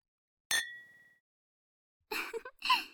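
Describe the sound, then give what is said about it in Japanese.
A single bright clink of glasses of water raised in a toast rings out and fades with a short shimmering tail, followed after a pause by breathy vocal sounds, like a gasp or sigh. “じゃあ、このお水をグラスに注いでっと。私たちの甘い甘い新婚生活に乾杯しちゃおう。”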